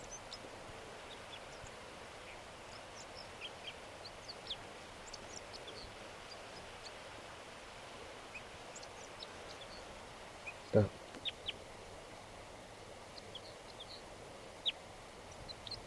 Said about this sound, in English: A crossbill just, I just noticed it. It's singing here in the tree. Behind the net.